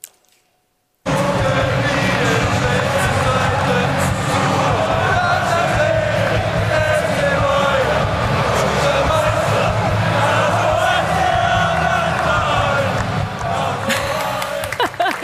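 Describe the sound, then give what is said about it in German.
After a second of silence, a large football crowd bursts into loud, sustained singing, a dense wall of voices chanting together. FC Bayern München player Leon Goretzka seems to lead the song throughout, after a match. “Und er hat nicht nur auf dem Platz spielerisch performt, sondern auch danach gesangstechnisch.”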